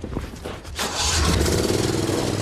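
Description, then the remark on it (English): A car engine cranks and catches about a second in, then settles into a loud, steady rumble for the rest of the moment, with no voices. “The Jaguar cats are go.”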